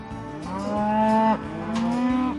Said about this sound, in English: This is my parents' home, my dad and stepmom's home, and we lease land around here with our animals, and we got about 100 cows, and it keeps growing. We're actually in the middle of calving season right now.